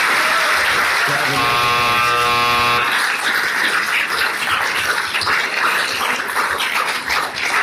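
A loud, steady electronic timer buzzer sounds for about two seconds at a council meeting, marking the end of a public speech, then cuts off and gives way to a wash of crowd noise.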